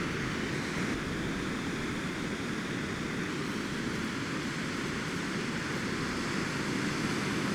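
Steady beach ambience at low tide around 6 a.m., with no sun, little wind and a white sky, a soft, continuous wash of surf, even and unbroken throughout, with no voices or distinct events standing out.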